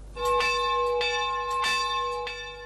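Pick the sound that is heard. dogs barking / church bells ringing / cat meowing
church bells ringing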